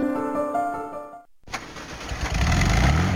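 An old VW Beetle engine cranks with a whirring, tonal starter, pauses briefly, then catches and roars to life, its loud rumbling idle building steadily. There are no voices.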